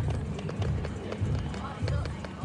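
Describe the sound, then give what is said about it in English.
Rhythmic, fleshy slapping of young women's buttocks clapping as they dance in front of a prison building repeats in a steady beat, loud, over a dense low rumble with muffled voices in the background. “Yeah, it's their ass clapping like that.”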